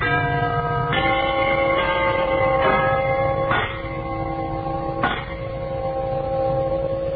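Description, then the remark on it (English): A set of brass door chimes, set off by pressing a button, rings out in a slow sequence of about five struck tones, each blooming and sustaining with rich overlapping resonance, loud with no talking. “we want you to listen to a set of these genuine brass door chimes”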